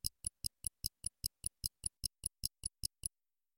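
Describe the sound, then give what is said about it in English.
A watch ticks steadily, about five crisp, quiet clicks per second in an even rhythm, heard alone before stopping after roughly three seconds. “It's not a clock. It's... a watch.”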